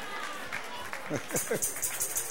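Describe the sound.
An audience breaks into applause partway through, a dense, steady wash of clapping that continues to the end, with a voice calling out over it.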